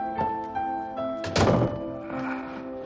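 A front door swings shut with a single solid thunk, preceded by a faint click, as a person walks out, while soft sustained music tones hum steadily underneath.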